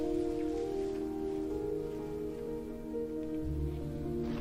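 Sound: rain falling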